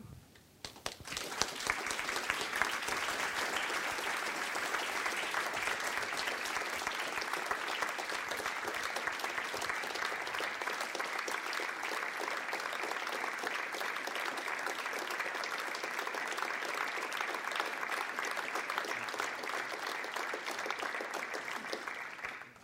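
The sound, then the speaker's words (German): Sustained audience applause at the end of a conversation with Mr. Dündar, a dense steady patter of many hands clapping that holds at an even loudness for over twenty seconds without any voices, longer than usual. “Ich darf Ihnen sagen, weil ich regelmäßig hier bin, dass der Applaus auch länger ist als sonst.”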